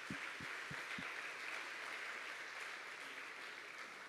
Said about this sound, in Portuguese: Glória a Deus, aplauda o Senhor mais uma vez, queridos.